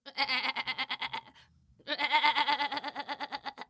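goat bleating

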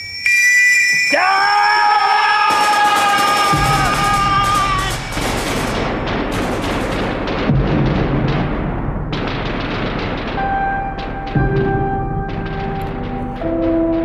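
battlefield explosions and gunfire

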